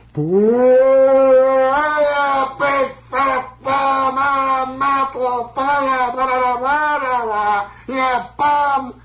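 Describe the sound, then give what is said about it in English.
A single voice imitates a stadium crowd of Yankees fans booing Mickey Mantle as he comes up to the plate. The boos are loud, drawn-out and low, like moaning, and are repeated several times with short breaks and slight rises and falls in pitch. “what are they booing about?”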